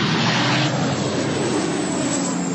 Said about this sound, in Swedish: På bilder från Reuters ser man människor som har klivit ur sina bilar på en motorväg, som står och tittar på när vattenbombningsflyg släpper vatten en bit ifrån dem längs med motorvägen.